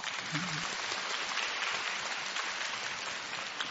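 Sustained audience applause, a dense steady wash of many hands clapping at an even level for several seconds, with no voices standing out.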